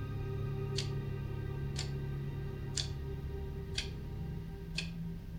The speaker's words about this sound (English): Can we turn the clock off or something? It's so distracting.